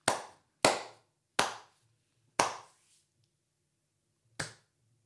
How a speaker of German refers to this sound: Ein Applaus an Viggo Mortensen.